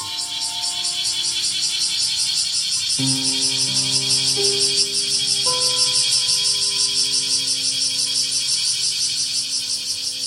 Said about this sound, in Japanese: 何事もなかったようにセミは再び歌い出しました。